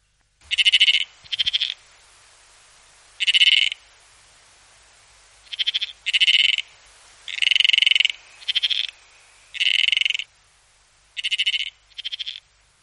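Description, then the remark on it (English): A Tasmanian froglet calling in a series of short, buzzy, bleating pulses, about ten bursts in irregular clusters with brief pauses between, clear against a quiet background. “Tasmania has its own special froglet, not found outside the state. Naturally, it's called the Tasmanian froglet”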